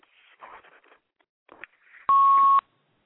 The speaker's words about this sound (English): I don't know where that beeping coming from.